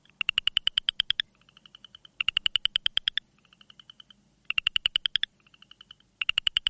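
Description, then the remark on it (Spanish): A southern chorus frog calls in repeated bursts of rapid, raspy clicking trills, each followed by a softer, quieter trill, clear with no talking. “Y aquí tienen ahora a la rana del coro sureño. Escuchen.”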